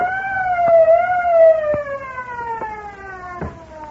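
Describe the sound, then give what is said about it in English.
A truck's anti-theft alarm siren blares loud after its lock is broken open, one sustained wailing tone sagging slowly in pitch, with a few sharp knocks breaking through it. “That fool, he's broken the auto alarm system.”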